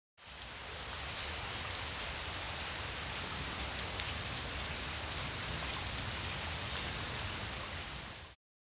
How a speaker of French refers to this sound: I can hear rain. J'entends la pluie.